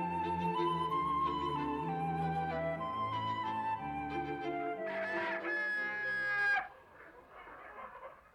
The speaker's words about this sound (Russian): Скоро добрались и до птичьего двора. Батюшки, что тут был за шум и гам.